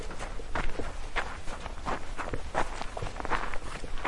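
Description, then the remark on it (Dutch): Steady footsteps of two people crunch over loose, rocky ground at a brisk walking pace as they walk into a gorge in a mountain range, with a faint gritty scrape under each step and no voices. “Samen lopen ze een kloof in.”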